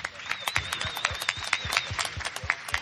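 applause

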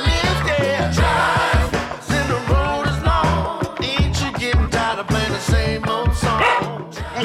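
dog barking

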